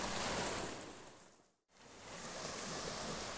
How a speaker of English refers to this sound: And the waves were great, they were just kind of, they were nice wee swell there, lifting you up and down, and it just feels joyous doing that, it's brilliant.